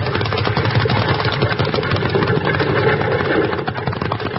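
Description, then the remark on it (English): A horse-drawn wagon, its team driven by a man, rushes past like a runaway: a loud, steady rumble of clattering wheels and rapid pounding hoofbeats, continuous for several seconds with no voices. “Jingles, that wagon. Get out of the way, Bill. That's a runaway.”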